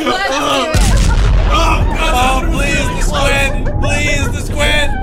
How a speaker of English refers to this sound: Was that an ink explosion to kill all of the fucking whatever else was after the weasels?